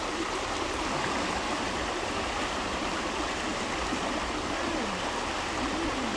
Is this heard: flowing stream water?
yes